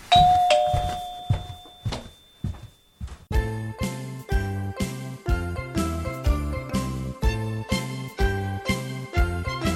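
A doorbell sounds with a bright ding and a lingering tone, then plays a busy electronic chime tune in quick, repeating rhythmic bursts, loud and close, with no voices.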